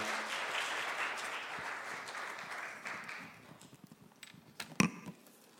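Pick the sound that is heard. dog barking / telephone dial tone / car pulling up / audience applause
audience applause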